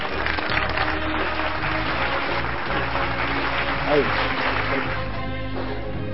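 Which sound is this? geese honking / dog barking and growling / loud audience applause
loud audience applause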